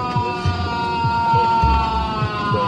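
Alexei Navalny lets out long, low, animal screams of pain aboard a plane, repeating every half second or so, over the steady mechanical drone of the aircraft cabin, as captured in videos taken by people on the flight.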